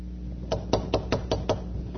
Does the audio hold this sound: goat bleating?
no